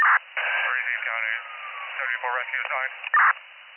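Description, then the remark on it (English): A county emergency dispatch radio transmitter keys up with a short burst of static, followed by tinny, narrow-band voice chatter and another brief, loud squelch burst near the end. “Affirm, sounds like they're keying up now.”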